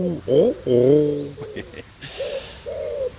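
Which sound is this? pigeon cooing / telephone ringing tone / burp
pigeon cooing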